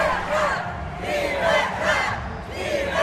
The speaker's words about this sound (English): Parishioners are dressed in white and blue, the national colors, but also those of the opposition. Some are waving national flags, others have banners that read, Free Nicaragua. At the end of the service, the crowd starts shouting.